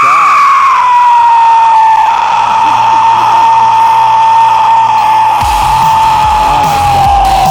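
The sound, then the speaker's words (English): A person imitates a pterodactyl scream: one long, loud, piercing screech held for about seven seconds, its pitch sagging slowly downward, with some background noise rising near the end. “That was the pterodactyl scream.”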